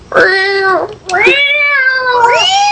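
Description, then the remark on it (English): A cat meows loudly, two drawn-out, tonal cries with a brief pause between them, the second rising and stretching longer than the first. “Well, yeah, we did have a pussy cat in the webcam.”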